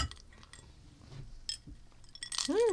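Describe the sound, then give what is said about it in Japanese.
A few bright glass clinks ring out during a toast with glasses of mikan (mandarin orange) drink, one around the middle and a louder cluster near the end with a lingering tone, over faint background rustling and no talking. “はい、 はいはい、では皆さんグラスありますか？”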